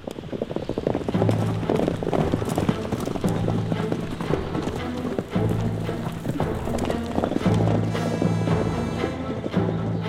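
Horse hooves clip-clop in a steady, rhythmic gait, fairly loud, over a continuous low hum and faint rushing background noise.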